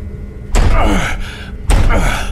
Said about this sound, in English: Try opening it. It won't budge. Out of the way. I'm gonna force it open.